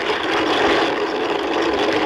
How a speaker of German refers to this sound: Das Knirschen und Knattern von einer Kaffeemühle, die man von Hand dreht.